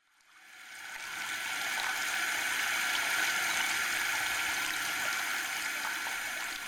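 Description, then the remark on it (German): Ice-cold, clear water gushes steadily from a tap a woman has turned on into her cupped hands, a continuous hissing rush that swells in over the first second and then holds at an even level, fairly loud, with no voices. “Sie drehte den Wasserhahn auf und ließ das kühle Nass in ihre hohlen Hände fließen.”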